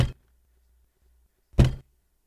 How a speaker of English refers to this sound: He reached out slowly with a curled fist and banged on the door just like the zombies in Night of the Living Dead.